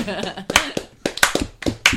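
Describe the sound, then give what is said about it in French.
A handful of sharp hand claps ring out at an uneven pace, fairly loud, applauding a joke during a quiz, while voices keep talking underneath. “Belle vanne, on applaudit.”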